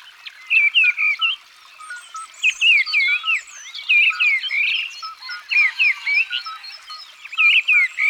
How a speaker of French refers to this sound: il y a une grive d'reine qui chante tout en haut d'un arbre. C'est la plus grosse des grives. Et son chant rappelle celui du merle, mais en plus rapide et moins riche.